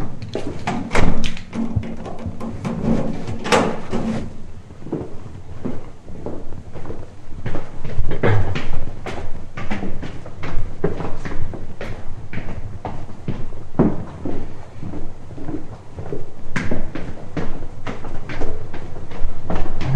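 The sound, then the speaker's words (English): Repeated heavy thuds and clanks of a metal door being swung open and shut, with rattling and scraping between the impacts and no talking. “There's my metal door”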